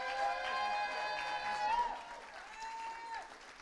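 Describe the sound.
An audience applauds with a steady wash of hand claps that lasts the whole moment, fairly loud and full, with sustained voices or tones ringing above the clapping.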